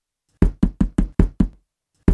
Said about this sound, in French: « Ouh ! Ouvre-moi ! Ouvre-moi, s'il te plaît !» Et vous tambourinez encore plus fort à la porte.